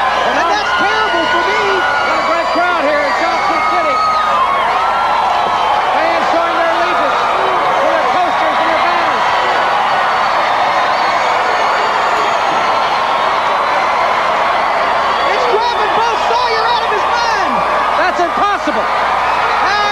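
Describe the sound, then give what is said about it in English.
A loud arena crowd cheers and roars without a break for the whole stretch, a dense wall of many voices yelling and whooping at a steady, overwhelming level. “I can't even hear myself talk!”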